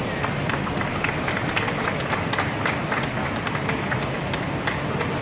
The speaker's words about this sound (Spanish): Bueno, no es fácil, ¿eh? Porque se oye así como un andén, una maquinaria de tren, unos aplausos.